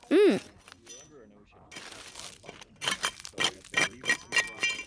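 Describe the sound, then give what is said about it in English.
Hammers strike rock in a quarry, breaking it into small pieces to find fossils between the layers, in a quick series of sharp, ringing cracks and clinks, about seven blows in the final seconds, after a brief voice and some scraping at the start. “And of course, we use our hammers and break the rocks up into small pieces to try and find the fossils hidden in between the layers.”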